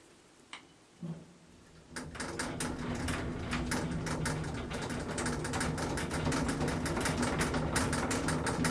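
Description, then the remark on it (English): A couple of soft clunks, then a hotel lift starts up and ascends to the sixth floor with a loud, steady mechanical rattle, a dense fast clatter of ticks and knocks over a rumbling drone that continues without letup. “I'm just about to get in the loudest, most frightening lift I've ever been in.”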